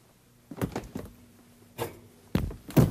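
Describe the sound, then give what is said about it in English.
A refrigerator door opens and shuts with a few soft thumps and clunks spread across a few seconds as things are put inside, with a faint steady hum underneath and no talking. “I'll put these in the refrigerator.”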